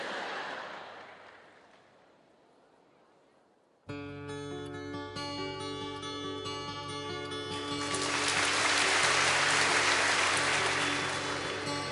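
Audience applause trails off over the first few seconds, then instrumental music begins abruptly, and a dense wash of clapping swells up again over the music, growing louder toward the end.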